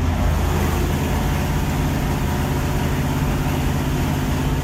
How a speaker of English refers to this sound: I'm looking at a motor on a stand. There's no vehicle around it or nothing, but that motor, belts are running, and, okay, I can hear it through the wall. Let me crack that door real quick.